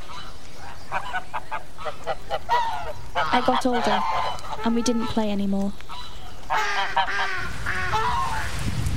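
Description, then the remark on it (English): Ducks or geese on a lake honk and quack in repeated bursts throughout, clear, with a person speaking briefly over the calls and a faint outdoor ambience underneath. “The ducks have the lake to themselves, no one else to talk to.”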